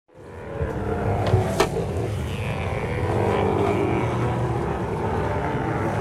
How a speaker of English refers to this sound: It's a stellar sea lion. They recognize each other, just like, I'm sure all the good parents is the same. So that's on land, totally different sound than what you get.